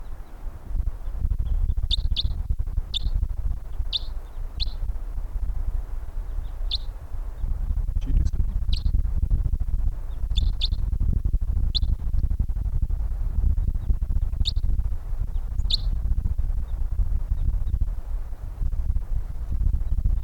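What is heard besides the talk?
wild birds calling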